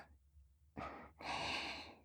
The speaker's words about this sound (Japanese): 先生、息遣いが荒いですよ。